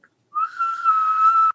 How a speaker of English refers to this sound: You can't whistle? Can't whistle. Really? How come I'm just finding this out now? Well, I mean, I can whistle in.